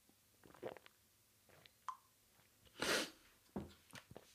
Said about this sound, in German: So, Entschuldigung, kurzer Schniefer.